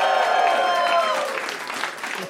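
A comedy show audience at Esther's Follies in Austin, Texas, during South by Southwest, claps loudly and steadily, a dense wash of applause with some cheering voices mixed in that gradually tapers off slightly toward the end.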